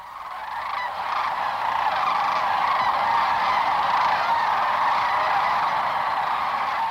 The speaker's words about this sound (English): The sound that we were listening to and we're hearing now, how large a flock typically would create such a din, if you will? Yeah, we'll often see a flock of up to 10,000 cranes at a time lifting off the river at sunrise